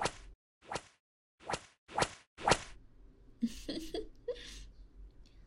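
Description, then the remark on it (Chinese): Five sharp whip lashes strike a person's back in a quick, steady rhythm, then give way to muffled, stifled cries and whimpers from the person, whose mouth is gagged with a towel. “被毛巾堵住嘴巴就叫不了了呢，那就先用鞭子在你背上抽一下。”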